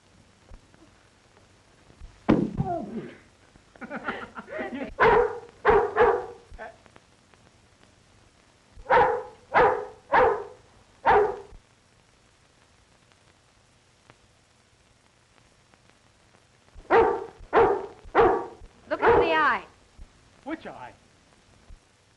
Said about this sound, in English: Do you think he'll bite? I'll see. Nice doggy. Now, say, here's a watchdog. He's a committee of welcome. Nice boy.